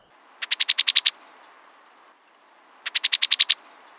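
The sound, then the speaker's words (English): Two quick, dry chattering bursts of a female brown-headed cowbird, each a rapid rattle of about seven sharp notes, separated by a short pause, clear against a quiet background. “And the female's chatter call.”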